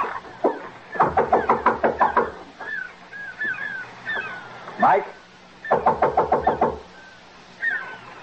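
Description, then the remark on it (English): A car engine cranks in two separate bursts of rapid, rhythmic chugging, each lasting about a second. Short chirping sounds fill the gaps between the attempts. “Oh, and just be sure to get my car back here by midnight when I close up, huh?”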